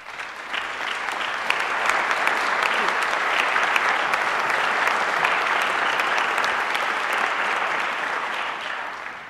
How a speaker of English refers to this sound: I'd like to ask members of those two groups to stand for a round of applause as well.